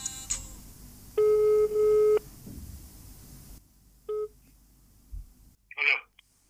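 Telephone tones as a phone call is placed, over a low background hum: a quick beep, then two long steady ringing tones back to back, a shorter tone later, and a brief high electronic burst at the end.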